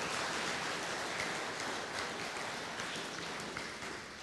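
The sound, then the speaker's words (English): An audience applauds a group of people who have just been up in front, a dense wash of many hands clapping at once, holding strong for several seconds before easing slightly at the end. No one speaks over it. “Can we round of applause for these guys and the ones who just were up?”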